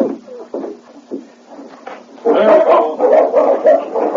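dogs barking

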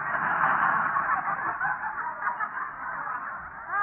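hen clucking

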